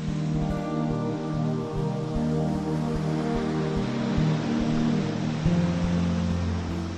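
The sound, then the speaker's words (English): Waves wash steadily against a stone breakwater, a continuous roar of churning surf with a low rumble underneath and one slightly louder surge near the end. No voices. “White peaks rise in a line out of the water, crashing on a stone breaker that keeps the water close to the shore, peaceful and calm.”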